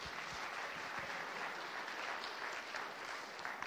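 A crowd applauds steadily as the next two participants are invited up, a dense, even wash of many hands clapping at once that holds at a constant level throughout, with no voices breaking through.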